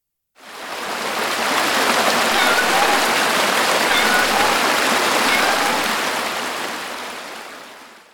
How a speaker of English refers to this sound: The water forced its way down the river, taking Tao with it on an enormous wave.